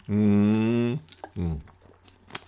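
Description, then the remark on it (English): Someone drinks water noisily, letting out a long, steady, satisfied "ahh" followed by a shorter one that falls in pitch, with a few faint clicks and swallowing sounds afterward. “I have to make noise when I'm drinking water.”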